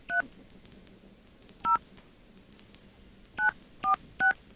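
Five short touch-tone beeps from a phone keypad as a number is dialed after a dial tone, each a crisp dual-pitched blip, spaced irregularly with a long pause after the second, over a faint background hiss.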